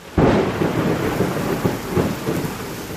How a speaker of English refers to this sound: How good is that sound? Rain.